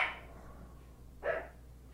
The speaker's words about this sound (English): Did you say, wait until the dog stops barking?